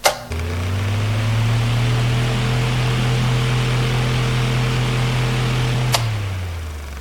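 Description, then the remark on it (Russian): An electric fan, played as a sound to identify in a quiz round, clicks on and runs with a steady low motor hum under a broad airy whoosh, then a second click switches it off and the hum drops in pitch as it winds down. “Вентилятор. Абсолютно верно.”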